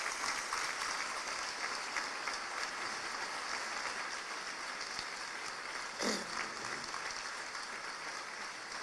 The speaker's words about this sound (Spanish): Un aplauso, un sentido para ella.